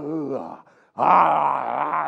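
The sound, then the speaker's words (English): A person imitates a lion's roar: a low, groaning growl, a brief pause, then a louder, rougher bellow that holds for about a second. “And here come big lion.”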